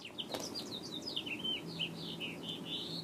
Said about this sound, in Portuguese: Nessa hora, passava um pássaro em cima dela.